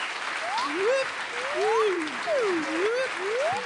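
A crowd applauds steadily throughout, a dense wash of clapping overlaid with rising and falling whoops and cheers from the audience.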